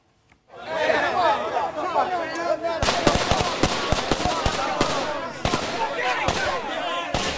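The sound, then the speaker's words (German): Rapid, irregular gunshots crack out in loud bursts at midnight in Nigeria, West Africa, some sharp, others duller, heard all around, over a steady background of screams, agitated voices and crowd chatter. “Kürzlich schliefen wir und wachten auf, als wir um Mitternacht Schreie und Schüsse überall um uns herum hörten.”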